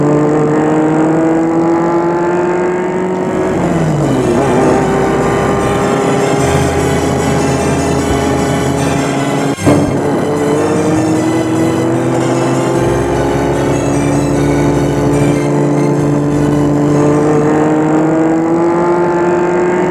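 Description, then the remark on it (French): A car engine drones steadily throughout, loud, its pitch dipping and rising with gear changes, and a single sharp click cuts through partway, as the car is started and driven to the gendarmerie (police station) in Moutiers. No one speaks. “Une fois dehors, on l'amène à une voiture, on la fait rentrer, ils entrent et on met la voiture en route pour l'amener à la gendarmerie.”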